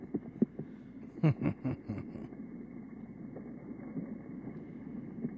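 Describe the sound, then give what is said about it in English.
A cluster of deep, muffled thuds in quick succession, played in slow motion, of a caught gar fish banging against a boat hull, set over a steady low rumble with no voices. “Slow motion, fish banging into the boat.”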